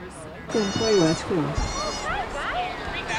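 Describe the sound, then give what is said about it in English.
Goats bleat repeatedly at a goat yoga class, several wavering, nasal cries overlapping in quick succession, with a steady background murmur of people and activity as the goats are fed and climb on people's backs. “With everybody spread out, more than 6 feet between different groups of people, the goats did their thing, making friends, getting fed, and finding backs to climb on.”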